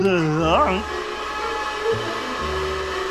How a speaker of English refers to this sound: Thumping Jehoshaphat and distortion and feedback. That's the vacuum cleaner. Oh, yes, yes. So it is. The vacuum cleaner.